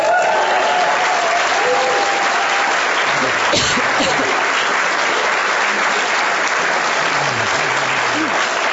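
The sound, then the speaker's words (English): Loud, sustained audience applause and cheering, in answer to being asked how excited they are about the race, fill the whole stretch, a dense wash of clapping with shouts and whoops rising through it, steady in volume from start to finish. “Let's just hear audibly. How excited are you about the race, really?”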